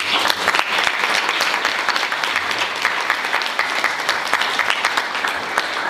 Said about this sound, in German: Bitte einen ganz herzlichen Applaus.